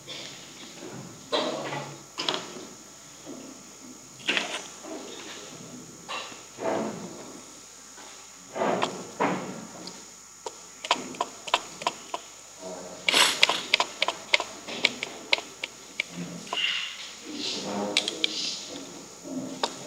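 Chairs scrape and clatter as audience members at a talk shuffle around and sit down in the remaining seats at the front, with scattered knocks and thumps that grow busier and louder toward the end.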